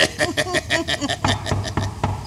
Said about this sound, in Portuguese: Estão a bater a porta, amor. Deixa, vou abrir.